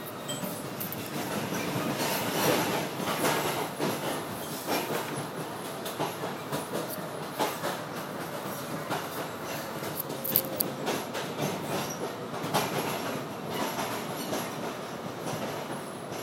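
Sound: train starting to move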